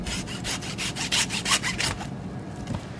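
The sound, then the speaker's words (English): A regular handsaw bought at Lowe's rasps through a pig trotter for traditional charcuterie in quick, regular back-and-forth strokes, bright and gritty, about a dozen strokes over two seconds before fading into quieter scraping. “expect to hear the whirring of a bandsaw, but no, we've just got a regular old handsaw here.”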